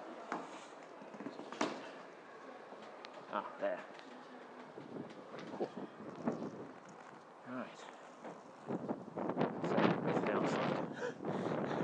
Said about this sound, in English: Guessed by the wind noise. So the building's on the bank of the Clyde.